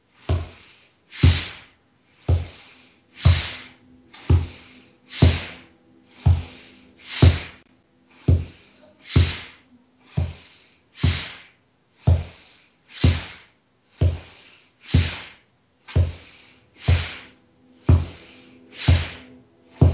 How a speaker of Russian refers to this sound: Делаем обычный вдох, обычный выдох и дышим. Вдох, выдох, вдох, выдох.